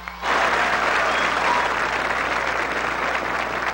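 A crowd at a march against crime and kidnapping in Colombia breaks into loud, sustained applause of gratitude for the young organizers after a brief quiet start, dense clapping holding steady at an even level to the end with no voices over it.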